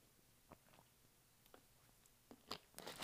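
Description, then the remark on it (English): Quiet drinking: a few soft mouth clicks and swallows at a slow, uneven pace, ending in a louder gulp. No one speaks. “So sorry if there's like a big gulp in the next 5 seconds.”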